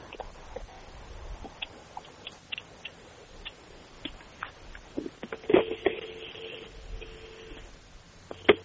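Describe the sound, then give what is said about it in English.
A payphone's steady dial tone hums quietly for a couple of seconds, surrounded by scattered clicks and ticks from the handset and keypad. No one speaks. “I can hear a dial tone now.”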